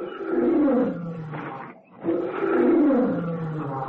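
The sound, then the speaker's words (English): A lioness, the mother of a cub, roars twice in long, deep, rumbling bursts separated by a brief pause. The roars are loud, with no voices present. “It's the mother lion, Louie. I know it is.”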